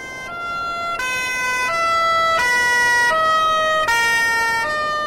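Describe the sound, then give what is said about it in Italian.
Emergency vehicle sirens blare loudly, alternating between high and low tones in a steady, repeating two-note pattern with no voices. “Un acuto di sirene mi perfora le orecchie.”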